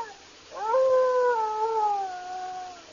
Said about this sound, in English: That's strange. That howl's coming from the east wing of this cabin. Right over there.